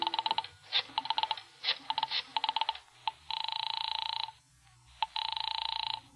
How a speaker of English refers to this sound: I remembered there was a phone someplace too, and I found it and crawled over to it and started dialing my number.